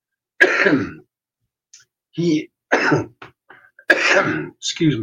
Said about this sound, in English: Cough.